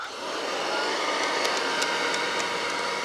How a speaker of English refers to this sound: But a new plastic had been invented called Bakelite. So you begin to see Bakelite vacuum cleaners made after World War II. All right, so we'll run this one.